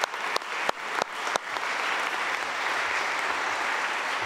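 A crowd breaks into applause welcoming a guest, a mother, opening with a few sharp, separate claps that quickly merge into a steady, dense wash of clapping that holds at an even level throughout.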